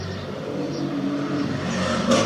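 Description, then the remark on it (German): A car passes on the street outside a home, heard from a balcony in fine weather, a broad motor rumble holding at an even, moderate level and swelling slightly louder near the end, with no one talking. “Ich wohne hier an der Straße, aber es kommen nicht oft viele Autos.”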